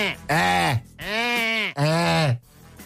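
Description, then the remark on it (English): A person imitates a goat with three wavering, nasal bleats in quick succession, each about half a second long, loud, with no other sounds. “Trying to do a good goat, but I just, this is the thing I always love about goats.”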